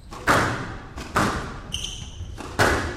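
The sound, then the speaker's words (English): Three sharp, hard smacks of a squash ball hit at full force against the glass wall of an all-glass semifinal court, spaced unevenly, each ringing briefly before fading, with a short high-pitched squeak between the second and third. “When a player hits a full force shot, it sounds like a bird hitting a plate glass window.”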